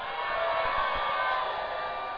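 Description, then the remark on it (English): An audience shouts together in a dense, sustained roar of many voices that holds at a steady loudness for about two seconds, with no single voice standing out. “Let me hear a shout here this morning.”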